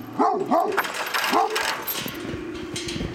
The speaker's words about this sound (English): a white Great Pyrenees, barks at his owners as they unlock the gate to the pasture he is guarding. He's not angry with them. He's simply doing his job of protecting his herd of alpacas.